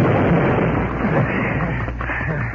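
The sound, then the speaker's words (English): A loud explosion at 3 o'clock in the morning wrecks most of the Daily Leader newspaper building in the still night air: a sharp burst at the start gives way to a heavy, continuous rumbling roar that dips slightly in loudness toward the end. No voices. “They escaped into the nearby woods as the explosion rent the still night air.”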